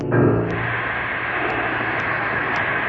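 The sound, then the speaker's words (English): An oil well drilling rig runs with a loud, steady mechanical roar, a dense continuous engine-like drone that holds unchanged throughout, with no voices, as it drills down past 20 feet. “Drilling, drilling, still drilling.”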